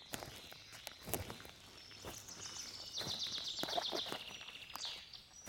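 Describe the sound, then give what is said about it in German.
Footsteps crunch steadily over small pebbles, fairly quiet, with a brief chirpy sound drifting faintly in the background. “Du hörst deine Schritte, das leichte Knirschen der Steinchen unter deinen Füßen.”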